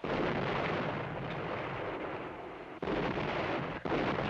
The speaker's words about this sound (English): I just don't want to walk around out there while it's raining artillery shells.